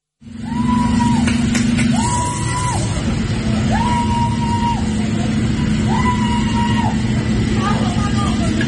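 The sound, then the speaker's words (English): A person wails in four long, steady, high-pitched cries at fairly even intervals, rising over a loud, constant din of crowd commotion and street noise, as locals fight off machete-wielding attackers with brooms, saws and bottles during a daylight store raid. “Now you can hear sounds in the background there, Nick, like someone is wailing as social media footage captured locals trying to fight off the attackers using brooms, saws, bottles.”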